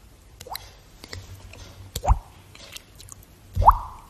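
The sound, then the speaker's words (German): A person makes water-drip sounds with their mouth: a soft pop, then two louder, wet, rising plinks about 1.5 seconds apart, with no talking. “So Tropfgeräusch.”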